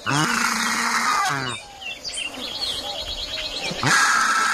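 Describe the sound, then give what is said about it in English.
A flock of birds calls loudly and continuously, with harsh, overlapping squawks that dip briefly into scattered chirps before swelling again into a dense, noisy chorus. “They've got such a beautiful sound, though. Who wouldn't want to hear that?”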